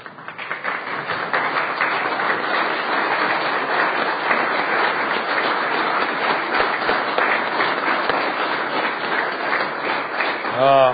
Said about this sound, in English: Mr. President, the applause was a little premature because I would like to introduce them individually, if I may do that.